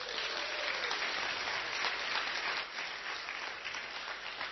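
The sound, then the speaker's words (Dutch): Steady applause from a crowd for the people of the Battle, who laid stones into a path. A dense wash of many hands claps at an even level for several seconds without any talking. “En ik wil eigenlijk ook wel een beetje een applaus.”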